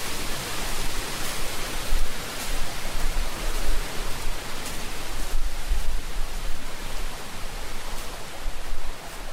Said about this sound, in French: La cascade.